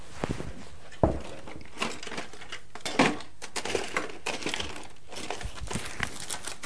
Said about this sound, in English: The pencil sharpener.